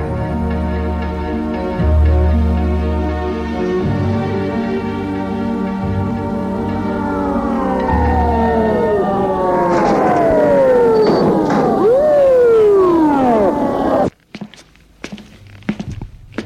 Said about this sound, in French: L'ambulance est arrêtée devant la gendarmerie.